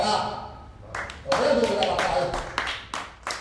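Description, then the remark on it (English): Scattered, uneven bursts of clapping from several people in a cafe in central Cairo as the court ruling on Mubarak is broadcast live on TV, starting after a brief lull, with murmuring voices running underneath throughout. “At a cafe in central Cairo, people clapped intermittently as the court ruling was broadcast live on TV.”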